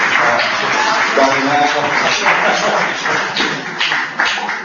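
A crowd claps steadily for several seconds to welcome an arriving book author, a dense, continuous patter of many hands, with faint voices murmuring underneath before the clapping starts to thin out toward the end.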